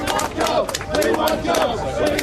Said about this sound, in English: That's the sounds from a pro-mine rally near the central Queensland city of Rockhampton today. The local mayor, …, addressed the crowd of around 100 to 150 people.